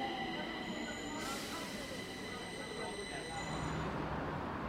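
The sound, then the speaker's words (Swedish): A Stockholm subway (tunnelbana) train rumbles through the underground station at Skanstull, with a steady low roar, high metallic wheel squeal and hiss, and faint voices in the background. “Och det är ju lite trevligt med sån här reklam när man står och väntar på tunnelbanan.”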